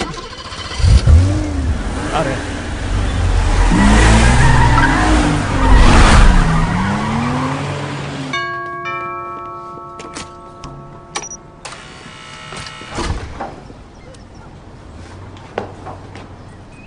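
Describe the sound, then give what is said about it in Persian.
An expensive car, worth more than an apartment, starts with a powerful engine revving hard, with sweeping pitch changes and tire squeal for several seconds, then cuts to a quieter scene with steady tones and a brief spoken word. “تا حالا سوار همچین ماشینی شدی؟ ارزش این ماشین از آپارتمانم بیشتره.”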